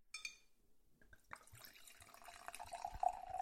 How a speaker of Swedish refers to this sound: Åh gud, vilket härligt ljud. Men alltså det är bara härligt för att man vet att det är vin som förs ner i glas. Det hade absolut kunnat vara kiss som förs ner i vattenklosett.